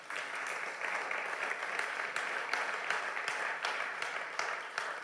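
Sustained applause from an audience, a dense wash of many hands clapping at steady volume for several seconds, with scattered sharper claps standing out from the crowd.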